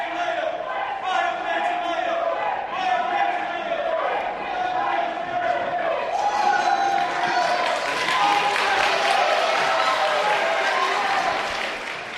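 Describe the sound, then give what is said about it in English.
A large crowd at a Bill de Blasio appearance claps and cheers steadily, the dense applause growing louder and brighter partway through and drowning out scattered shouting protesters (calling to fire Pantaleo) underneath. “The like compensatory applause to drown out protests.”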